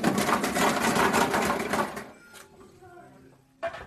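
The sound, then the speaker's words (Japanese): A gacha capsule machine is cranked to draw a capsule choosing a film to review, with a rapid, loud ratcheting clatter for about two seconds, then goes quiet apart from a faint voice and one sharp click near the end. “レッツガチャタイム。”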